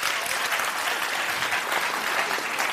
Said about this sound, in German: Einmal in die Hände klatschen, wer Siedler von Catan kennt.